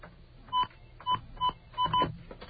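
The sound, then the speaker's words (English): Five short electronic telephone keypad tones are dialed in an uneven rhythm as someone programs a phone, each a brief dual-pitch beep, clear, with the last two coming in quick succession; nobody speaks. “I'm going to program this phone to do it for me. Just by hitting all these little beeps here, I will be able to”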